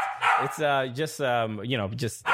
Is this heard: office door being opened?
no